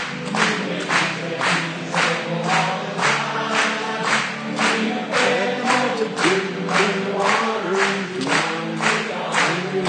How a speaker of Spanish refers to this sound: Vamos a aplaudirle a él. Una vez más.